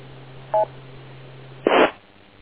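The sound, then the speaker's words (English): A brief, two-toned electronic beep from a radio relay sounds once, followed moments later by a short rush of static hiss, all over a steady low hum. “Wait for the beep.”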